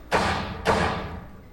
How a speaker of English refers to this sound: We need a door slam.